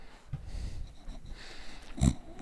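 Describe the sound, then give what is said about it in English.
A dog snores into a microphone in rough, snorting bursts, one longer rumble early on and a sharper snort near the end, with a low breathy hiss in between. “That's probably my dog snoring in the mic.”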